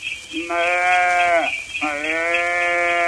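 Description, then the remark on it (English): A calf bleats twice, loud: two long, wavering cries with a short break between them and no other sounds around. “Oh, look, below, a calf.”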